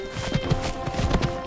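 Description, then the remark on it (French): Horse hooves clip-clop in a quick, steady rhythm, a string of sharp knocks over a faint constant hum, with no one talking. “L'ordu, va sur le cheval de Millie.”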